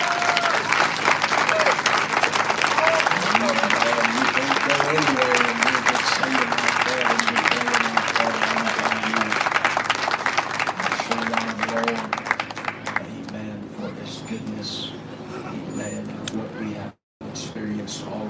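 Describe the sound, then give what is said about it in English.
An audience claps hands for the music, musicians and singers in a sustained, dense burst of applause with cheering voices mixed in, then the clapping tapers off into murmuring and a few scattered claps. “And clap your hands for this music and these musicians and singers.”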